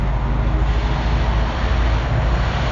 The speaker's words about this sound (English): Let the train pass by. There we go.